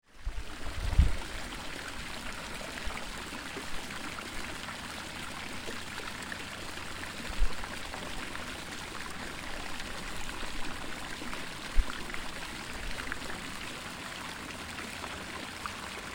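A waterfall in a tropical forest rushes steadily, a constant wash of flowing water, with a few soft low thumps now and then. No voices.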